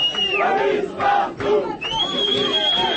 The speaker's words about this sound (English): Police everywhere, justice nowhere, shouted people.